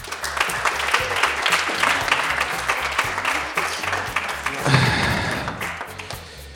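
An audience bursts into sustained applause, a dense crackle of many hands clapping steadily for several seconds, with a few low thumps underneath and a slight swell near the end.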